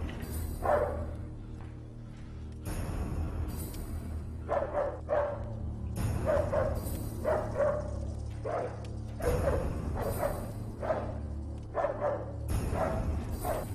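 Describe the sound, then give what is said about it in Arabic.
A dog barks repeatedly in short, sharp bursts, loud, with a few yips mixed in over a steady low background rumble; no one speaks. “أطلق الكلب عليها.”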